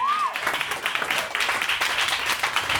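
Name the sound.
audience clapping and applause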